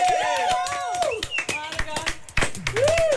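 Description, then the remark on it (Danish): Applause from a group of people, many hand claps blending into a steady patter, with a few sharp claps and bright cheering or whistle-like voices over it. “Må vi klappe nu?”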